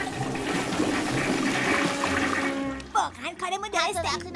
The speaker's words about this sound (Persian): کاش یه دستگاهی وجود داشت که سریع شر دستمال توالت رو کم میکرد. یه چیزی مثل سیفون توالت. آره وجود داره.